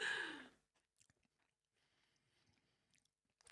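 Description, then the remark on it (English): Chewing of a crunchy crust of air-fryer prawn toast made with rice sourdough bread: one loud crackling bite at the start, then quieter, scattered crunches and mouth clicks as the chewing continues, with no talking. “I think I've got a crunchy bit of crust.”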